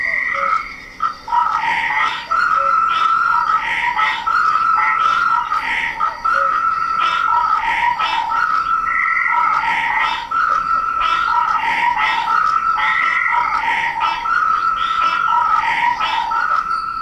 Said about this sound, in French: Mais avant de commencer l'émission, et pour le plus grand bonheur des auditeurs de Radio Grenouille, je vous propose un concert de votre batracien favori. Écoutez.